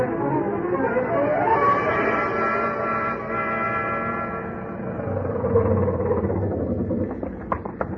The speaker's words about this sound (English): I jumped into my pants and into the landlady's car and got over there as fast as the 1929 Ford could take me.